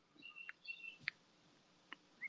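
A bird at a feeder in Rhode Island, heard through an open window, chirps quietly in a short, irregular run of thin, high tweets and quick sharp chips, with brief gaps between calls and no voices.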